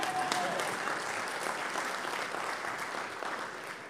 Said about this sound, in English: That's okay. You can clap for him, yeah.